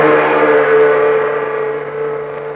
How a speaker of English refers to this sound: The big truck clatters and rumbles down the Burma Road, bound for a nearby river. In the back of the truck lie three figures whose heads are covered by hoods.